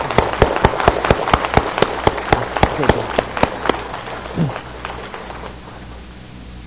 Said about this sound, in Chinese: 感谢主，我们大家拍手。